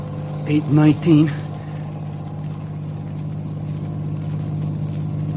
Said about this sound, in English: that was a wonderful thing you did, driving the car away so those innocent people wouldn't be hurt.